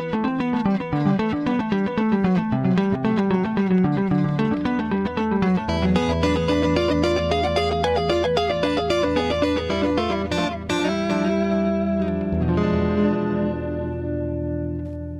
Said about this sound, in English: And then a little bit of clean echo type sound, highlighting the stereo type sound.